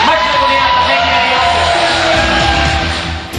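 A crowd cheers and applauds loudly and steadily for a few seconds for Mr. Plamen Konstantinov, with scattered yells and whoops rising over a dense wash of clapping before easing slightly at the end.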